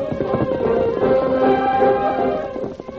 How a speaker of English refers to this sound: The Lone Ranger recognized the beat of Scout's hoofs coming through the woods toward his camp.